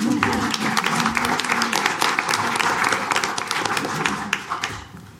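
An audience applauds steadily for about five seconds after a candidate for mayor of Bozeman finishes speaking, a dense, loud patter of many hands clapping that thins slightly toward the end, with faint voices murmuring underneath.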